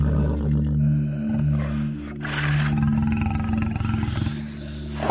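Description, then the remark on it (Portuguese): A lion roars, a deep, loud, rumbling growl that swells and rolls on for several seconds with a gravelly texture, no voices present. “No caminho, um leão o encontrou e matou.”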